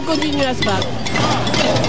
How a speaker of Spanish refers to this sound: Si vous entendez les casseroles taper, c'est parce qu'elles sont vides. Si hoy se escuchan las cacerolas es porque están vacías, porque todo está caro.